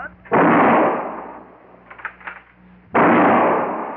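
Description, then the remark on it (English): Two loud gunshots fired at a crow flying away, each a sudden sharp blast that trails off into a long rumbling decay, spaced about two and a half seconds apart, with faint scattered sounds between them. “Well, you better hurry up and shoot.”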